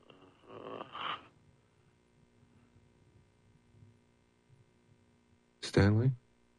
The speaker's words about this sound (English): By the second or third hour, the guy had fallen asleep, and you could hear him breathing.